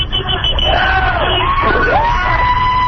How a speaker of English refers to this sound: and the crowd is chanting, and the response from the people passing by is really quite good. Only two people have flipped us off so far.